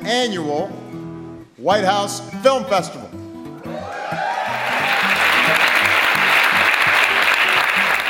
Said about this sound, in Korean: 제2회 백악관 학생 영화제의 개막을 알리는 바락 오바마 대통령의 인사말에 관객석에서 환호성이 터져나옵니다.